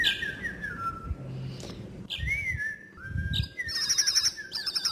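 A baby bird, found and being saved by Carrie Underwood at her house, chirps repeatedly: thin, high, descending peeps at first, then a rapid run of sharper trilling chirps near the end, over a low background rumble with no talking.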